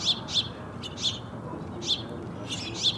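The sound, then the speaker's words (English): House finches and house sparrows chirp at a bird feeder in Arizona in short, bright bursts, about six quick calls spaced irregularly, over a steady low background rumble of outdoor noise. “House finches and house sparrows provide familiar sights and sounds at many bird feeders in Arizona.”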